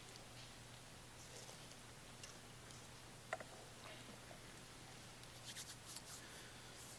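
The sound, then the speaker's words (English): Many Bible pages turning as a church audience turns to 1 Thessalonians: soft papery rustles and flicks scattered throughout, faint and overlapping over a low steady hum, with a small burst of rustling near the end. “Love to hear the pages turn.”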